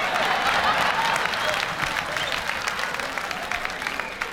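Steady audience applause, a dense wash of many hands clapping at a fairly loud, even level throughout, with a few sharper claps standing out as it slowly eases off.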